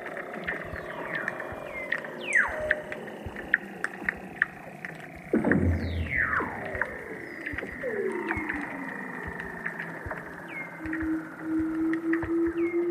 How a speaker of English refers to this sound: This summer was the first time, apparently, in more than half a century that a good number of Weddell seal mums gave birth to their pups in front of the base. You can lie on the sea ice and, if you're lucky, hear the seals singing below.